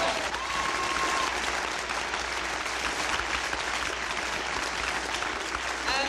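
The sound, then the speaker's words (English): A crowd applauds steadily for several seconds, a dense wash of clapping with a few whistles and cheers rising over it, sustained and fairly loud throughout. “And as the crowd goes gently wild here tonight”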